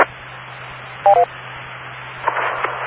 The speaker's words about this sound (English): We're getting the normal Glen Oaks beep.